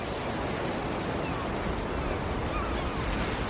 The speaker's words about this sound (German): Die warten nur auf die nächste große Welle. Schau, da kommt eine.